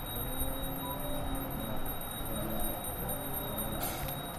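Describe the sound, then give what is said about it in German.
Rapid, continuous metallic ringing of a temple bell, rung by deputy head priest Swami Sadanand Saraswati to open the Arti morning worship at the Sharda Pitmat monastery, dedicated to the goddess Saraswati; a steady wash of sound with no voices. “Swami Sadanand Saraswati, der stellvertretende Oberpriester, läutet die Arti, die Morgenandacht, im Sharda Pitmat ein.”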